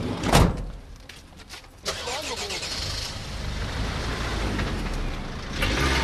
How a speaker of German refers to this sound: Die Teilnehmer springen wieder in die Busse und nehmen die Verfolgung auf.